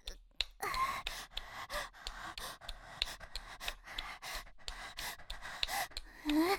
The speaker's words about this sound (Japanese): 息遣い、違うの。最近太ったからさ。足の運動しながら電話してるの。今ね、寝た状態で自転車を漕ぐみたいな動きしてるよ。